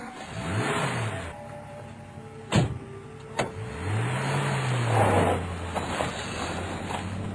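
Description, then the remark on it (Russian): A car moving fast with a steady engine hum and rising, sweeping tones, a couple of sharp clicks or thumps partway through, and a thin airy hiss of air whistling past running throughout; no voices. “Вскоре он оказался в машине, в тепле и уюте. Она несла его так быстро, что слышался свист рассекаемого воздуха”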